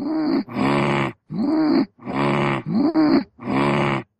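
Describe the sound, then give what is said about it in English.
A run of about six low, throaty grunts and groaning murmurs traded back and forth between a woman and her sister in quick alternation, each a short rough voiced burst separated by brief pauses, fairly loud with no words. “I especially like the back and forth murmurs there at the end.”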